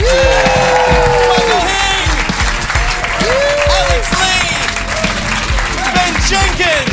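A large audience claps loudly and steadily for several seconds, with whoops and cheers rising over the dense, continuous applause.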